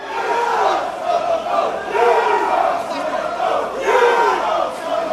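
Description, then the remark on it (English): A large crowd of soccer fans supporting Papua New Guinea's Hekari chants in unison at a rain-soaked match in Melbourne, flags out, a loud, sustained roar of many voices rising and falling in rhythmic swells, with no single speaker standing out. “Even when it turned into a downpour, the flags were out and the chanting got louder.”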